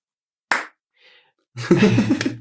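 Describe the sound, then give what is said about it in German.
Applause for a magician known in the magic scene for the Phantasma Slam: one sharp, loud clap, a short pause, then a brief, dense burst of clapping that fills the last second, with a low murmur running underneath. “Der Phantasma Slam ist das, für das man dich so im Moment kennt in der Zauberszene, dass du das machst und wir feiern dich auch alle dafür. Ein Applaus.”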